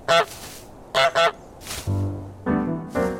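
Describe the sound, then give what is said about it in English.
A goose in a video game honks loudly, about six sharp, brassy blasts in an uneven rhythm, the later calls lower and more drawn out, with no voices. “It's a lovely morning in the village, and you are a horrible goose.”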